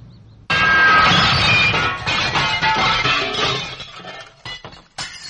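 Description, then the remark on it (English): A stone crashes through a school glass window with a sudden loud shatter, followed by several seconds of glass shards tinkling and clattering as they fall, ending in a final sharp clink. “See the stone hit the window. See the glass fall like jewels from the window.”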